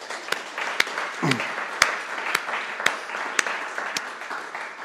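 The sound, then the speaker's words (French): A church audience applauds the team that broadcasts the service, steadily for several seconds, the dense patter of many hands punctuated by sharper, evenly spaced claps in a regular beat, moderately loud throughout. “On peut les applaudir.”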